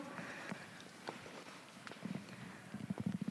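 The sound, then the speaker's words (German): Horse hooves clip-clop at a steady walking pace, the hoofbeats growing more frequent and pronounced toward the end, with no talking. “Liesel war mein Pferd im Krieg. Ein treues Tier.”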